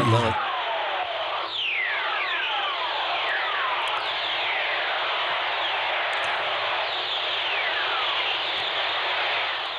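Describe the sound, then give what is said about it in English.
Constant crackling radio static carries a series of whistler radio waves picked up by a spacecraft, each a thin whistle gliding smoothly downward in pitch because high frequencies travel faster and arrive sooner than lower ones, several overlapping and recurring throughout, with no voices present. “it's hearing these whistlers. Yeah, that's because the high frequencies travel faster than the lower frequencies, and they get to the spacecraft sooner.”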